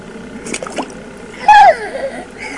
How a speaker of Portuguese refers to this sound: Não é para beber essa água. É para o banho.